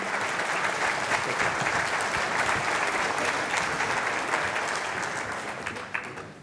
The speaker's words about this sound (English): Ladies and gentlemen, our winner. Applause for all our debaters. Thank you very much.